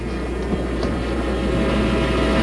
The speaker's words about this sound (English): Here comes the train.